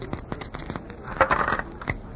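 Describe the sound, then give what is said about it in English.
Dice are thrown and clatter across a hard surface in a quick series of light clicks, with a denser rattling burst in the middle before they settle showing five and three, an eight. Moderately quiet, no talking. “It is not nice for a doll to be carrying dice. Look, what do you want me to throw?”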